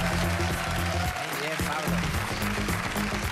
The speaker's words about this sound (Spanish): Que produce este señor. Un aplauso para él.